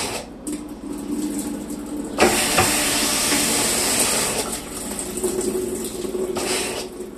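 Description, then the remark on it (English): A small washing machine malfunctioning: a steady low mechanical hum under rushing water, then a sudden louder burst of hissing spray that runs for a couple of seconds before settling back. “I didn't realize how much I loved my small washing machine until I heard this sound.”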